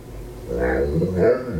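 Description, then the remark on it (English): A dog lets out low, drawn-out growling vocalizations in two connected phrases, their rising and falling tones sounding eerily like the words "where are you going?". Moderately loud, with no one else talking. “We're fitting that, like, there's no way that dog obviously said, where are you going?”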